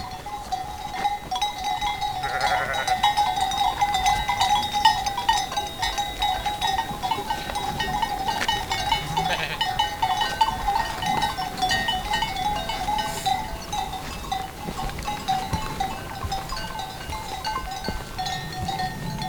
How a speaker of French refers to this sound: Les brebis bougent plutôt en file indienne.